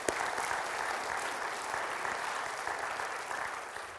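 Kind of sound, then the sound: crowd, audience applause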